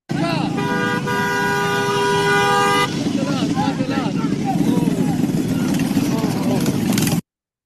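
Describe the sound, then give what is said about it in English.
A car horn blares in one long, loud, steady honk for a couple of seconds over street noise during a street fight, followed by excited voices and commotion. “Watch the car!”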